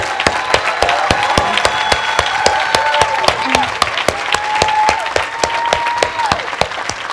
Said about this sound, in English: And so I do have 2 boys who just recently signed up in the military, and I would like us to please give a round of applause for all of our military people.